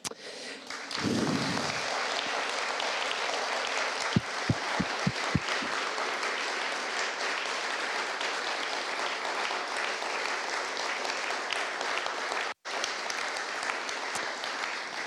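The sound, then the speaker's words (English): A large crowd at an evening gathering applauds steadily and loudly for people awarded medals, a dense wash of clapping with a few sharper individual claps and a brief pause near the end. “If I could clap with a microphone and a piece of paper in my hand, I would, because that is the most awesome thing that has happened tonight, that some people in this room have been affirmed and have been awarded that medal.”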